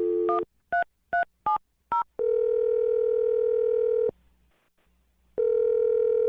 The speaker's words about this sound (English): All right, I'm dialing the phone number now. Here we go.